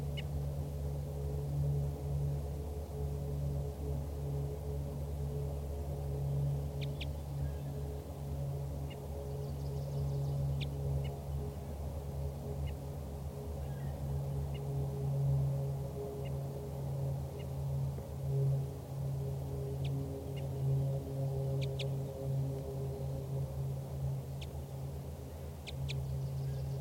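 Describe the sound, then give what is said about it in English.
A wild female bird gives a few short, high flight calls and toops, scattered, over a steady low rumbling hum that dominates the background. “So recording again, that wild bird is giving flight calls and toops.”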